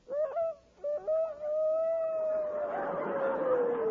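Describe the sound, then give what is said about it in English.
A person imitates the Pathé Newsreel Rooster crowing on the Rexall radio program: a few short, choppy opening notes, then one long, loud, sustained cry that slowly glides down in pitch, with no talking. “But now, ladies and gentlemen, as a special feature of the Rexall program, we present for the first time on the air the crowing of the Pathé Newsreel Rooster.”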